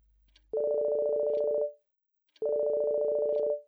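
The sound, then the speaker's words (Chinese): A mobile phone rings with two loud, steady electronic buzzing tones, each lasting about a second with a short pause between them, with no talking. “红眼的手机突然间响起，让处于天堂境界般的他气急败坏地拿起了话机。”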